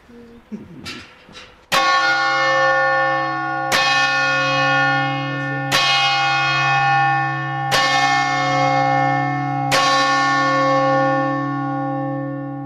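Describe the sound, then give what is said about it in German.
A church tower bell in the Cento Valle strikes the full hour five times at steady two-second intervals, each loud, ringing stroke blending into a long resonant hum, after a brief moment of soft voices and faint clatter. “Der Minutenzeiger ruckt auf die volle Stunde vor.”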